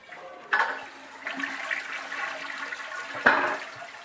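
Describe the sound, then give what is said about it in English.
A toilet flushes, a sharp burst of rushing water that swirls steadily and then surges again near the end, with no voices over it. “Matter of fact, let's flush the gold Dow ratio down the commode.”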